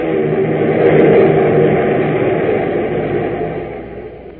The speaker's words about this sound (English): he turns into the wind, and with the engine singing a song of power, the plane roars into the takeoff.